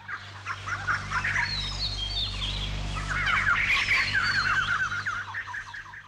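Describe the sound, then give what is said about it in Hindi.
A row of brightly coloured cockatoos, one on each brass perch, screeching: harsh shrill calls overlapping without pause and swelling louder toward the end, over a steady low hum. “उनकी कड़वी तीखी चीख चिल्लाहट की आवाज चारों ओर गूंजती रहती थी।”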